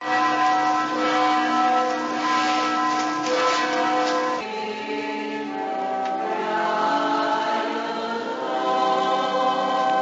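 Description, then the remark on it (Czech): Bells of the churches of Subotica peal continuously and loudly on Easter morning, marking the start of morning mass, their overlapping rich tones ringing together in a full, sustained clangor with no voices present. “Od jutra se sa svih subotičkih crkava oglašavaju zvona kojima je označen početak jutarnje mise, a koju većina vernika ne želi da propusti.”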